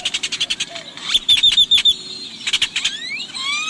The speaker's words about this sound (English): This startling voice, one of cracks, clatters, wheezes, squeals, and trills, belongs to a male great-tailed grackle. Picture a very large blackbird glistening with blue iridescence.